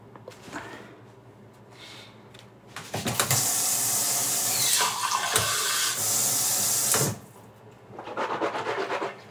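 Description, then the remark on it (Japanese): A tap turns on and water runs strongly for about four seconds while hands rub and splash beneath it, then the flow cuts off, followed by softer rubbing and wet friction. “私は手洗いうがいはちゃんとしますね。”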